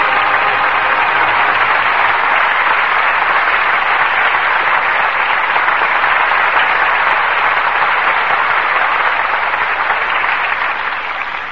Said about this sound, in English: well-deserved applause for two superb performances from Joseph Cotten and Ida Lupino. And in answer to it, we bring them back to the footlights for a curtain call.